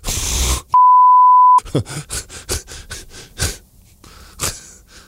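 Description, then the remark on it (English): A loud censor beep, one steady pure tone lasting about a second, cuts in after a brief noisy burst and is followed by quiet breathy, gasping sounds. “Well, I'm glad I beeped that.”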